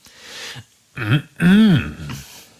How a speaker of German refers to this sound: Er räusperte sich energisch. Keine Reaktion. Er wiederholte das energische Räuspern energischer.